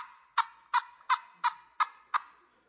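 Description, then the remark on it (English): A turkey call device imitating a gobble: six sharp, evenly spaced gobbling bursts, each trailing into a fading rattle, loud with no talking. “we've really got to get these turkey calls, all right? These things right here. These drive turkeys crazy.”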